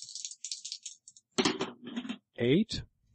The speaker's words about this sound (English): Well, let's resolve that because otherwise we let the dice decide. Yeah. Okay. That's why they're in my hand. So roll.